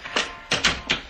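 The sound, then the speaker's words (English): A door being unlocked and opened with keys, heard as four sharp mechanical clicks and clacks of a latch or lock in quick uneven succession, with no voices. “Open the door.”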